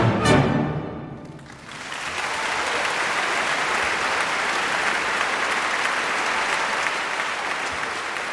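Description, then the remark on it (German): An orchestra's final sustained chord rings out and fades, then a crowd bursts into loud, steady applause that continues evenly to the end, with no talking. “Und wenn es genug ist, Hände runter und Applaus.”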